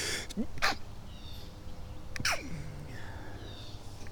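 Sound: sneeze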